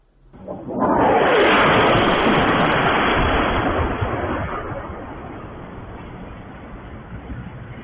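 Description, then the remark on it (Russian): A single massive explosion of an aviation munition accidentally released from a Russian Su-34 jet over the center of Belgorod, Russia, on the evening of 20 April, bursts out loud, then a long, roaring rumble slowly fades over several seconds with no voices present. “Давайте посмотрим, как это выглядел момент взрыва.”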